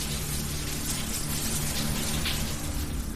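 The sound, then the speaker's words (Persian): Hot shower water runs at home in a steady, continuous hiss, spattering evenly with no break in intensity, over a faint low hum underneath. No one speaks. “بعدش رفتم زیر دوش آب داغ.”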